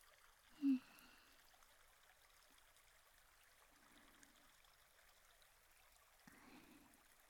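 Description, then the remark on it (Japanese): A small stream trickles steadily in a quiet outdoor setting where people pause to cool off, soft and continuous, with a brief low thump near the start and faint bursts of bubbling later. “こうやって小川でちょっとだけ涼んだだけでもだいぶ涼しくなりましたか？”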